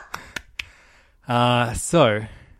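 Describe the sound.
Three quick, sharp hand claps in an even rhythm as two people stand and give a standing ovation to the manga How Do We Relationship Volume 2, followed by a loud, drawn-out voiced vocal sound that rises and falls in pitch.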